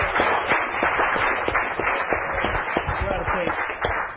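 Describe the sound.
A crowd claps and cheers steadily, with a dense patter of handclaps mixed with shouting voices that holds at a fairly loud, even level throughout.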